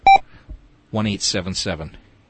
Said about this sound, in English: You know, I like to get rid of that beep. I don't know how you do that.